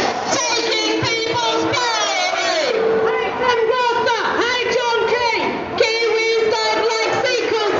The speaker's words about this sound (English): According to media reports, the largest crowds were at the rally in Auckland, where, despite a steady rain, at least 5,000 people turned out. The protesters railed against the secrecy surrounding the TPP negotiations